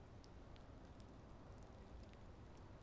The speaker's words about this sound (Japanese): お、あれ、もしかして降ってきました？さっきまで晴れてたのに通り雨。